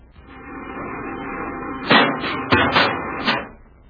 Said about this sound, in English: The repeller ray smashing against the tree trunk.